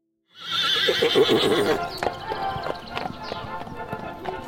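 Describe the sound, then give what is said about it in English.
The horse Hans, in Germany at the end of the 19th century, gives a loud, wavering whinny lasting over a second, followed by a steady series of hooves clip-clopping at a walking pace. “Our horse in Germany at the end of the 19th century.”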